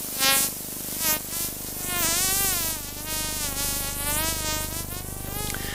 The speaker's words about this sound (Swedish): Tumlarens klickljud som har saktats ner för att vi ska kunna höra det.